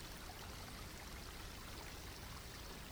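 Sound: gently flowing stream water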